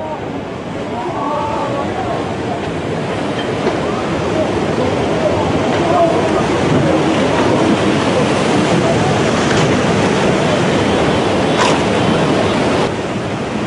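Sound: huge ocean waves crashing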